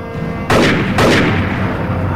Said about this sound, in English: Hearing the gunfire, he runs round the back of the house.